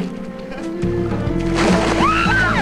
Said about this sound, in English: With a smile, Will pulls off his t-shirt and the couple enter the water.